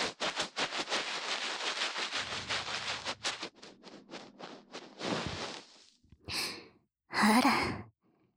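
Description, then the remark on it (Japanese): A big, breathy yawn swells up and trails off after a quick intake of breath, following several seconds of steady soft rustling and scratchy brushing from ear cleaning with a bonten. “大きなあくびですね。”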